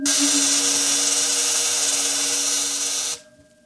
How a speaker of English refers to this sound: The field is vibrating at the cycloid rate set on the crystals. All right, it's ready for discharge.